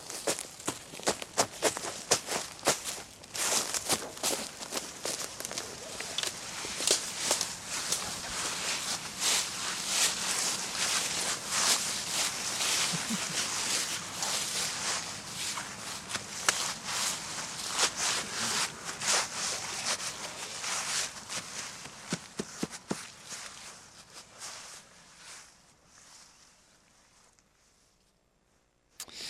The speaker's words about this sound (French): Donc là, on a entendu pas mal de bruits de pas.